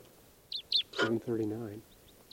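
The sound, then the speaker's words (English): Two sharp, high-pitched chip calls of a wild type 4 red crossbill coming in to decoy birds ring out in the evening, then a man's voice talks briefly, with a few fainter chips continuing after him. “there's a wild type 4 crossbill around here. And it's coming into the decoys now.”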